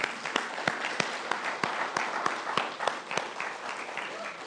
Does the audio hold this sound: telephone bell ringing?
no